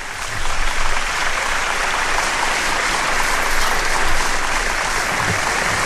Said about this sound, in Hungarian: Megvárom a taps végét, nem beszélek vele.